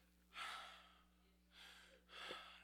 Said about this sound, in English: When I tell you I was having trouble breathing, I was all week long, I was gasping for air all day long.